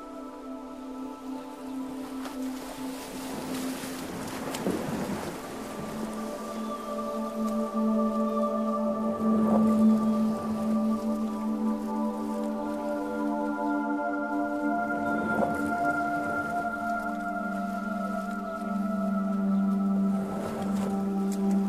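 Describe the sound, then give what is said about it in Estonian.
Sea waves surge and wash in roughly every five seconds, each swell rising and fading, beneath a steady, sustained droning musical tone with no voices. “Tänane luulehetk toob meieni lainesund ja sügisluulet.”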